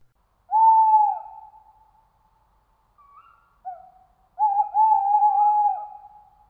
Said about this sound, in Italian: Il grido lontano di una civetta era il solo suono che turbasse il silenzio di morte.